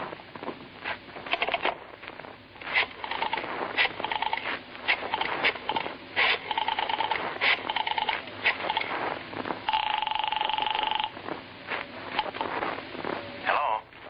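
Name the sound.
telephone being dialed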